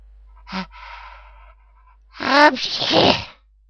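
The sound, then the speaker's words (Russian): A short gasping intake of breath, then a pause, followed by a loud, explosive sneeze from a man who has lowered his binoculars and bent forward, with a breathy, voiced tail. “Чихнул, как видите.”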